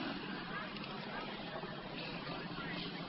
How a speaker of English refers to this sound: I want you to see these old Indian motorcycles that are riding down the mountain.